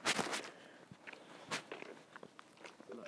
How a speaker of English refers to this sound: This divvy has got broken flip-flops on. You can hear him dragging his feet.